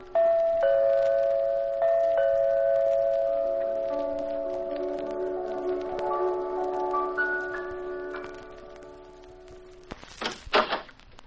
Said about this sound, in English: You stick your finger on the doorbell. But all you get is piano music. You keep pumping at that bell.